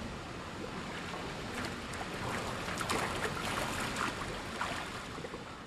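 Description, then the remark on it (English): Water in a swimming pool, the Sweeney Pool on the UMKC campus, sloshes and splashes in a steady, hissing wash, with scattered brighter splashes rising and falling throughout and no voices. “Ah, the soothing sounds of water.”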